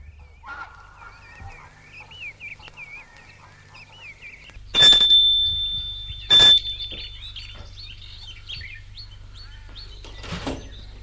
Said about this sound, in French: Monte un perron pour sonner à la porte d'entrée.